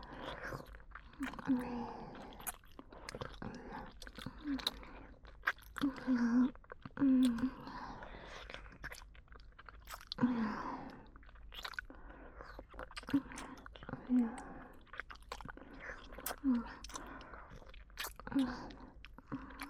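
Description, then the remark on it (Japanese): Wet mouth sounds of licking and kissing, with tongues licking inside the mouth, repeat steadily: soft smacks, slurps and tongue clicks in an irregular rhythm, intimate and quiet, with faint breathy noise between them and no speech. “私たちの舌、口の中舐められても気持ちいいでしょ？”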